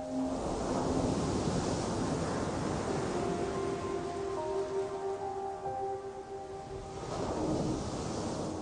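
Ocean waves wash steadily onto the shore, a full, rushing surf that swells at the start and again near the end. A faint tonal hum drifts underneath, and no one speaks.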